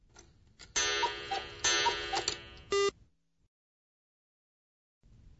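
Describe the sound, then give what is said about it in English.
A clock strikes two o'clock with two loud, ringing chimes in quick succession, clear, followed by a brief bright tick before the sound cuts to silence. “Then listen to the clock and answer the question.”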